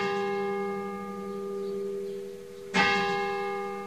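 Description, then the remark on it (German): The bell of an almost 1000-year-old church tower in Vrestedt, Lower Saxony, Germany, rings on and on in the middle of the night after lightning struck the tower during a thunderstorm, with a sustained, humming tone, its resonance lingering before another clear strike near the end renews the ringing. No voices are present. “Die Glocke des Kirchturms hörte nämlich mitten in der Nacht nicht mehr auf zu läuten.”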